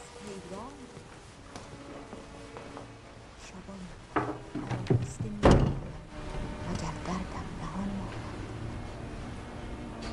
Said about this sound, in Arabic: صوت طرقة الباب، صوت طرقة الباب هذه لأسد وليس طرقة ثعلب